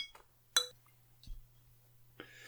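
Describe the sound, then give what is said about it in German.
Glasses of ale clink together once in a bright, sharp toast, followed by a soft thud and quiet handling sounds against a low background hum. “Ach so, lass uns mal anstoßen.”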